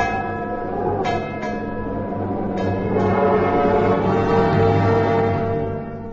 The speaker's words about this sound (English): That ship out there must be warned. Sound the bell!